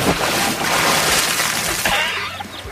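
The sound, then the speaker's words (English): A loud, splashing rush of water, like something plunging in, churning and sloshing for a couple of seconds before trailing into bubbly settling. “Maybe I dive into the news and get some of that water in my throat.”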